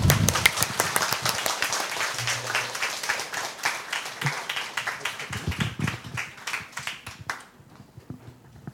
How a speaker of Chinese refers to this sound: 我哋俾掌声